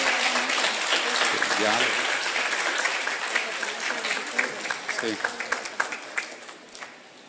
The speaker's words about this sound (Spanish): Un aplauso también muy especial para el instructor de Nochistlán, Zacatecas, y su esposa,